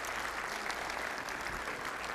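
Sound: audience clapping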